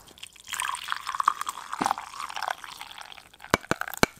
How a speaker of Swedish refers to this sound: Ja, det är det finaste ljudet som finns. Ljudet okay. av en färsk kopp kaffe som hälls upp på morgonen.